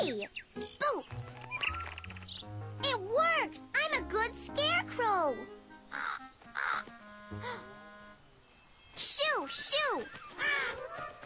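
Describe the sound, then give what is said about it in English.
A large bird caws loudly, a rapid series of harsh, rising-and-falling calls in bursts, with other voices and low steady tones underneath. “Was a big bird.”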